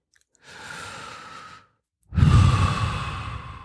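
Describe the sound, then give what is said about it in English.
One slow, deep meditative breath: a long airy inhale, a brief pause, then a fuller, louder exhale with a soft rushing, sigh-like quality. No talking. “If your meditation gets disturbed and overwhelmed with mind talk, you can take a number of cycles of this breathing till it quiets down, then go back.”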